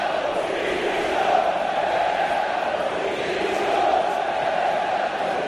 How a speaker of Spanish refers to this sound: A gritos de Pepe Castro, dimisión, los jugadores entraban al vestuario.